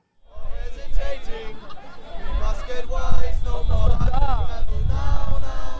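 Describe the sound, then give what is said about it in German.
A crowd of 30 to 40 protesters blocking Warschauer Straße sings "Rebella Ciao", a version of "Bella Ciao", together, their voices loud and steady over a dense hubbub of chatter and noise that continues throughout. “Ja, also eine Version von Bella Ciao, Rebella Ciao.”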